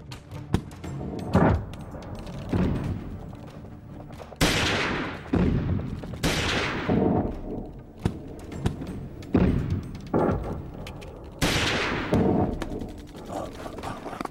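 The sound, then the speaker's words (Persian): Loud bursts of gunfire erupt repeatedly at irregular intervals, each volley cracking sharply and trailing off into a rumbling echo before the next one hits. “بذاریم بیام بالا، ببینید بد بزنید، گلوله نداریم.”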